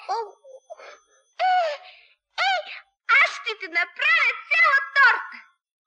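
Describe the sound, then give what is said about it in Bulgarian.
A child sobs and wails in a string of high, wavering bursts, growing louder and more rapid after a few short whimpers and pauses, with nothing else behind it. “Ама ти за петленцето ли плачеш?”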